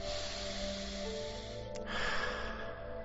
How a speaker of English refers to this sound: Go ahead and close your eyes, breathing slowly and deeply all the way in through your nose, out through your mouth.